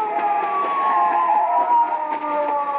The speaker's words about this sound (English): Wait, listen. A police car. Come on.